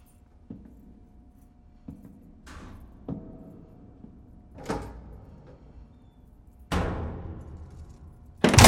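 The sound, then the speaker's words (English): A door opens and closes amid a few scattered clicks and knocks, with a louder, longer swish-and-thud near the end and a final bump as it shuts; a security guard opens a bedroom door, shines a flashlight in, then leaves, closing it behind him. “As the door opens, the boy quickly lies back in bed.”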